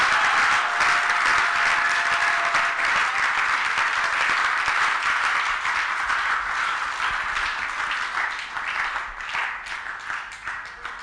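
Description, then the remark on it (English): Loud, sustained applause from a large audience at a church worship service, a dense wash of many hands clapping at once that holds steady for several seconds before gradually thinning and fading. “Is that how you can clap?”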